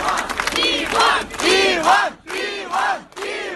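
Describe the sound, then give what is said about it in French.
A large crowd of hundreds of protesters shouts together in loud, rhythmic bursts, chanting in repeated waves with brief pauses between each collective cry, demonstrating on Saturday outside the Moscow court where journalist Ivan Golunov appeared. “Voilà, ça c'est une vidéo postée aussi par Medusa où l'on entend les cris donc de centaines de personnes qui manifestaient et qui ont manifesté pendant 8 heures toute la journée de samedi devant le tribunal moscovite où Ivan Golunov comparaissait”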